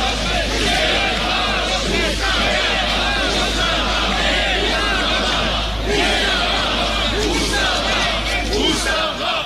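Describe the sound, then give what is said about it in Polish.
A large crowd at a protest shouts in unison, chanting the Polish slogan "ustawa, ustawa, nie dla roszczeń", a dense, continuous roar of many voices outdoors, loud and sustained throughout with rhythmic swells. “Ponownie, ustawa, ustawa, nie dla roszczeń, krzyczą zgromadzeni.”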